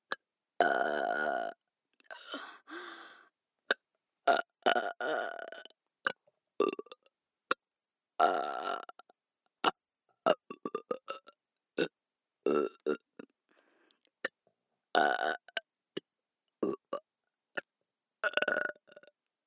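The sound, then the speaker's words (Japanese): A long series of loud burps, some drawn out and guttural, others short and clipped, coming in irregular bursts with brief silences between them and no talking. “汚いゲップ聞きながら勝手にしこれ。”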